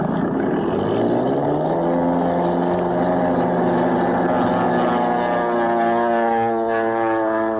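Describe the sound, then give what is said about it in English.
A propeller plane flown by a lone pilot roars steadily and loudly into the night, its droning pitch climbing in the first seconds as it revs up, then holding a strong, continuous hum with no voices. “Into the night roars a plane piloted by a lone man upon whose shoulders rests the fate of his country.”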